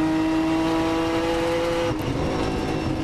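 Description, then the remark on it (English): A race car engine roars loud at high, steady revs as the car drives over a hill, then its pitch drops suddenly near the end as it lifts off and the car gets a little light coming over the hill, with heavy road and wind noise throughout. “Car gets a little light coming over that hill.”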